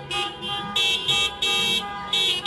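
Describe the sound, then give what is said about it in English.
Several car horns blare together in long, overlapping blasts, pulsing on and off in an uneven rhythm over a steady background of traffic noise, from nearly 100 cars lined up at a protest outside the Hudson County Correctional Facility in New Jersey on Sunday. “Meanwhile, in New Jersey, Never Again Action staged a simultaneous protest on Sunday, with nearly 100 cars lining up outside the Hudson County Correctional Facility, where there are 2 confirmed cases of COVID-19.”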